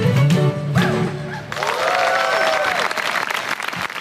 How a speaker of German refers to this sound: Am Ende stehen dann doch fast alle vor ihren Stühlen und klatschen. Das gesittete German Listening ist somit beendet.